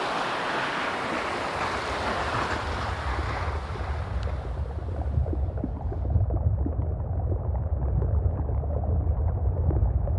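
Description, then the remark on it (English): Underwater iceberg sounds: a steady, deep rumbling wash full of dense crackling and fizzing pops, turning more muffled partway through as the bright hiss fades, with no voices. “That was kind of mind-blowing how, as different as each image is photographically, the sound of an iceberg, each iceberg is very different.”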